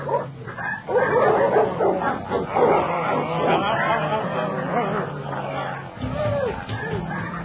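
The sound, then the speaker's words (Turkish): Several dogs bark and snarl aggressively in a loud, chaotic frenzy, overlapping growls and yips, as they attack to carry out a death sentence, with a brief lull near the end before the commotion resumes. “Cezası ölümdür. Köpek yoldaşlar cezayı infaz edin.”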